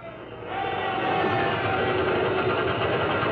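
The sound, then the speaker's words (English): Ship pumps start up on convoy ships docked at Malta, pumping oil out of their holds: a steady mechanical rumble that swells within the first half second and then holds a dense, even drone, with faint tonal hums riding over a broad churning noise. “And you hear the pumps get going.”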